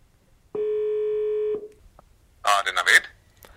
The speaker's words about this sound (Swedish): Men nu ringer vi honom.